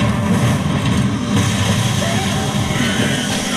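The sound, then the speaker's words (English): A chainsaw engine runs loudly and without a break, a steady rumbling drone with a rough buzzing edge that holds the whole time. “With a chainsaw.”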